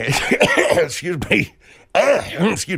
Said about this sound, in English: I'm coughing a little bit.